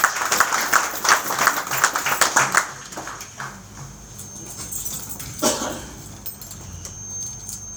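Audience applause for a professor, a dense burst of many hands clapping for about two and a half seconds, then trailing off into a quiet murmur with a single sharp clap later on.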